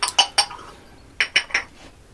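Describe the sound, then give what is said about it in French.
A cup of coffee is served, with bright clinks of ceramic cup and metal cutlery: three quick taps, a short pause, then three more, with no talking. “S'il te plaît, sers-moi un café.”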